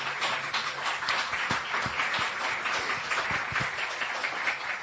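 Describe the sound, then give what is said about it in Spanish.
Steady applause from a crowd, a dense wash of many hands clapping at moderate volume for the full five seconds, with a few sharper individual claps standing out. “Hay aplausos.”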